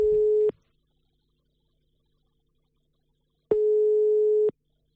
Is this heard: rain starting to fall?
no